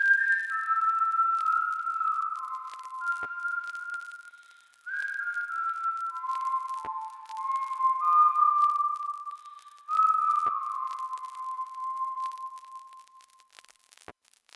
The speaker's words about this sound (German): habe ich einfach irgendwie das vor mich hingepfiffen und dann meinte Leo so, ey, cool, nimm es doch mal auf